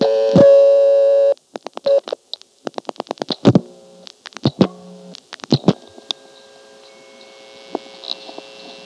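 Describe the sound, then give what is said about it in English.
A steady harmonic telephone tone is followed by rapid bursts of clicking and short switching tones, then scattered clicks and faint chirps over a quiet line, with no voices; recorded by dialing into a connector group of a telephone exchange. “On this next call, I deliberately dialed into a connector group and just sat there to record those tones.”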